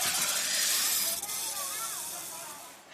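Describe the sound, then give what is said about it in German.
A snake that feels threatened hisses in one long, steady, breathy rush lasting about three seconds, easing slightly toward the end, with faint voices murmuring beneath it. “Das Zischen kommt von der Schlange. Es bedeutet, dass sie sich bedroht fühlt.”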